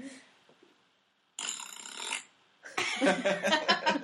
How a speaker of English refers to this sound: I feel like I need to put a fart noise in here.